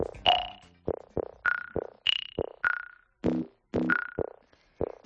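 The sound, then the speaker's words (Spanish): A gravitational-wave signal detected by the LIGO experiment, rendered as sound: a quick run of about fifteen bright, plinking electronic notes with short ringing decays, jumping between pitches like a phone ringtone, with no voices. “Bueno, pues un siglo después, los científicos del experimento LIGO las han detectado. Confirman la teoría del físico alemán. Así se escucha, mira.”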